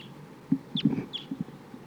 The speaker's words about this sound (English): So far no crossbills have been captured. A lot of crossbills here flying around, including one that sounds like a type 2 bird, pointing at the flock.